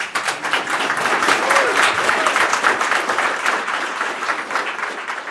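Sustained audience applause, a dense wash of many hands clapping at a steady, fairly loud level throughout, with faint crowd murmur mixed in and no clear speech.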